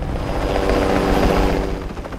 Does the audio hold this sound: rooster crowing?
no